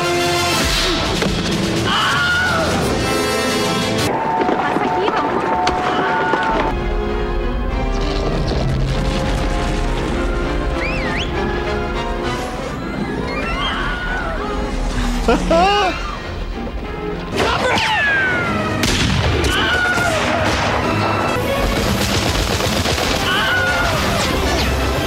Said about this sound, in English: There's a bunch of montages of the Wilhelm scream around if people are curious about this.